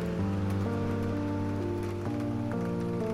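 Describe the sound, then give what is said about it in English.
Steady rain patters in a continuous hiss in the dark beneath sustained, slowly shifting musical chords, with no voices present. “And you're just standing here in the rain, in the dark, and wondering.”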